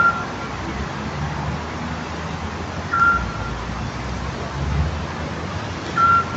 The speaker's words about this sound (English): I know some people might think that sounds like a truck backing up very slowly. That's a Scops owl, to be precise.